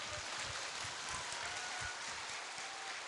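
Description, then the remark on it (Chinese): A crowd at a church gathering claps steadily for a few seconds to welcome a brother, a dense, continuous patter of many hands at moderate volume with no talking over it. “我们掌声欢迎我们弟兄好不好？”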